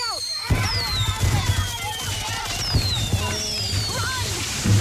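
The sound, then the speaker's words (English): A pack of fireworks set off by bored teenage boys on a Friday night goes off in a dense, crackling barrage, with thin whistling streaks rising and falling overhead and a steady low rumble underneath, fairly loud and continuous throughout. “what do a slow Friday night, bored teenage boys, I'm bored, a pack of fireworks, this is gonna be awesome, and a teetering branch suspended over your car have in common?”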